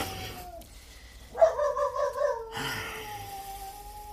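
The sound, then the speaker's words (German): A short burst of high-pitched yapping from a small dog at night, several quick rapid yelps run together for about a second, loud against a quiet background. “Dieses Hundevieh, das kläfft einen ja in Grund und Boden hinein.”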